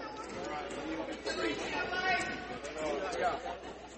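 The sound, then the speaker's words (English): A steady murmur of many voices fills Pruitt Hall during a West Georgia women's basketball game, overlapping chatter rising and falling slightly at a moderate, constant level with no single voice standing out. “Good crowd here at Pruitt Hall.”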